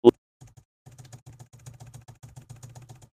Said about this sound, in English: Now I'm going to hit the down arrow key a bunch of times.